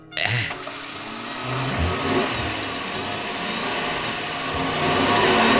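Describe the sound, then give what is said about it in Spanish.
A car engine runs steadily as the car is driven around in circles without bumps, jolts or sudden braking, a continuous rumbling drone that swells slightly louder toward the end, with no voices. “Como 5 minutos el Valenzú manejó el carro dando vueltas y vueltas, sin entrar en baches, ni sobresaltos ni frenazos.”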